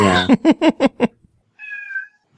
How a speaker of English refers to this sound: Yeah. Even the cat was like, someone did what? The timing on that meow was so good.